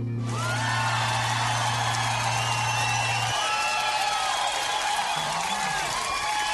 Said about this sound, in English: Our studio audience is giving a big round of applause there